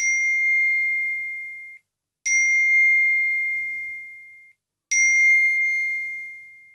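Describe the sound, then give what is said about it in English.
Three bright electronic notification pings from a phone as messages arrive, each a clean bell-like tone with sharp attack that slowly decays, spaced about two and a half seconds apart with silence between. No voices. “So the verb to ping, it means that noise which your phone makes when a message arrives.”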